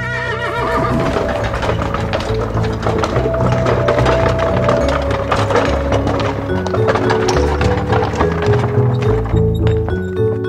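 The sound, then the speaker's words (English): The hooves of six horses pulling a coach clip-clop in a steady trotting rhythm, with a horse whinnying, all set against loud, continuous musical accompaniment that fills the whole stretch. “6 fine horses we have also got.”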